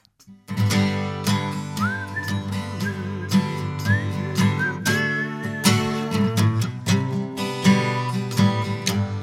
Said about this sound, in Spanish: A ver, va a tener que silbar.